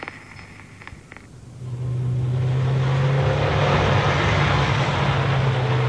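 A car engine rises from quieter road noise into a loud, steady roar after about a second and a half, a driverless black sedan speeding recklessly at full speed along a road in the Netherlands with a constant droning hum.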